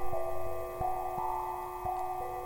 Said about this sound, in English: The building is dark and silent, but it comes to life with the flip of a switch and the hum from the lights.